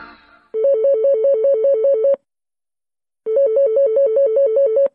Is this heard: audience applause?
no